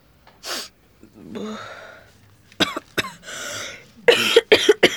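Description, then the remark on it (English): At the doctor's, a person coughs in two bursts: a couple of sharp coughs, then a harsher run of three or four quick, loud coughs, with breathy vocal sounds before them. “I've got a cough and I've got an earache.”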